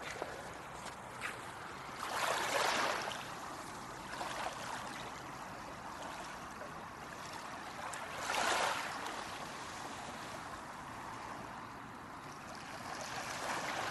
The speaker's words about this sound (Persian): آرامش رو از صدای دریا بگیرید.